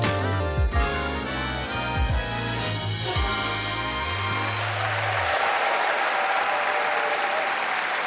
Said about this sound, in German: Vielen Dank, vielen Dank, vielen Dank. Das ist ein Applaus, der überhaupt gar nicht so klingt, als hätten wir ihn vorher geübt oder als hätte ich ihn eingefordert.